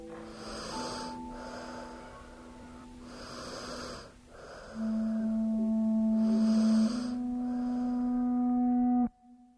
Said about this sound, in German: Es ist Nacht. Ich lege mich neben meinen Sohn. Er ist 2 Jahre alt. Er schläft. Er atmet.